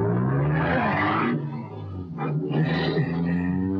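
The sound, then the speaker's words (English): A car engine roars loudly, revving hard with a shifting pitch as the vehicle accelerates away at speed, a steady rumbling drone throughout with no voices. “We got the guy's clothes, a little dough, and a car. Let's go. Come on. Step on it.”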